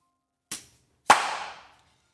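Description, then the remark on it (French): A short, soft pop is followed by a louder, sharper champagne-cork pop made with a stage sound-effect instrument, trailing off into a brief hissing rush. No one speaks. “Au bouchon à champagne.”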